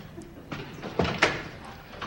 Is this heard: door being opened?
yes